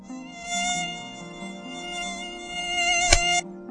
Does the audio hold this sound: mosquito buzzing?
yes